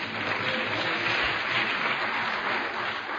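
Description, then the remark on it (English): Scattered clapping from an audience during a sermon, a steady, dense patter of many hands that holds at an even level for a few seconds without any voices over it. “It's okay, everybody ain't got to clap.”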